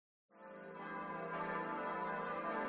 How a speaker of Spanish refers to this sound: Sí, ya suenan las campanas de la Catedral de Sigüenza. Voltean en señal y en sonido pletórico de clausura.